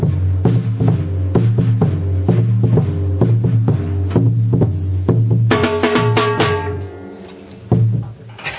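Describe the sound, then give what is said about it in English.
Surdo bass drums, about 24 inches high and 16 to 24 inches wide, pound out a loud, steady, repeating rhythm, each deep booming hit ringing into the next with a sustained low tone. Some brighter, sharper strikes join midway. No one speaks. “So those are the big bassy drums.”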